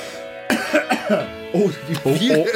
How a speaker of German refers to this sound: muss sich erstmal nochmal räuspern.